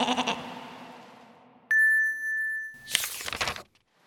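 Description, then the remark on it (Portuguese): A sheep bleats once, its wavering cry fading away, then a clear ringing chime sounds before a short, breathy burst of noise at the end. “a ovelha, bem, ela ficou lá fora, encharcada.”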